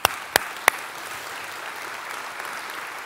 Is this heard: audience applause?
yes